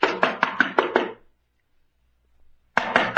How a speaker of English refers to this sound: Hey, let me knock. What's the matter? Don't I know how to beat on the door? No one's answered, have they?